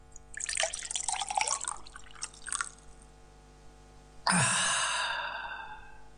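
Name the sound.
water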